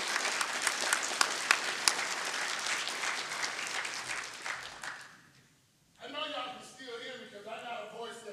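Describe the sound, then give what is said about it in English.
An audience claps in thanks to the Lord, a dense, sustained burst of applause that gradually fades out over several seconds, followed after a short pause by a man speaking. “Is there anybody willing to clap their hands saying thank you, Lord?”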